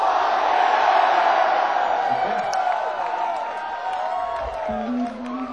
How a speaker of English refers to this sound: If you guys had a good time, you just scream fuck yeah.